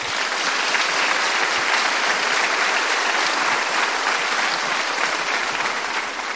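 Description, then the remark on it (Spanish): Steady applause from a crowd, a dense continuous patter of many hands clapping at an even, fairly loud level for several seconds, with no voices standing out. “Merece un aplauso el personaje, ¿no?”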